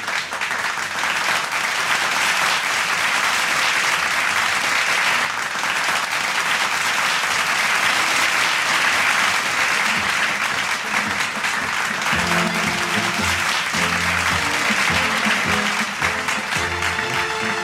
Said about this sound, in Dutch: Dat is applaus voor iedereen die zo fijn gereageerd heeft en ook verzoekjes hebben aangevraagd.